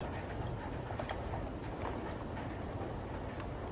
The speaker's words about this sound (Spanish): Biblioteca en silencio, 40 decibelios.